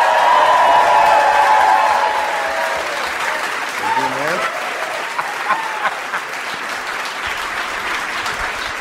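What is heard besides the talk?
audience applause and cheering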